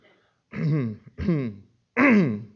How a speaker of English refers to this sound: Just clearing my throat a little bit there.